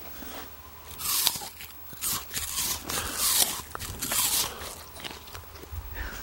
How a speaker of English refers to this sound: Do you want to have the listeners at home hear what a crunchy apple sounds like? Get really close to the microphone and chomp that apple.